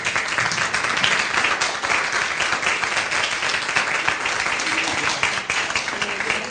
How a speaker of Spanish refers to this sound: Vamos a ir aplaudiéndolo. Es un momento.